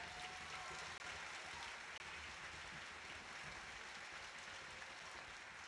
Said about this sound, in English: I'd like to have a nice round of applause for all the crew people.